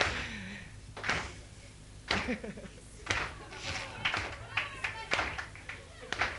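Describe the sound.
A crowd claps along in a steady beat, roughly one sharp clap per second, with a voice talking underneath between the beats.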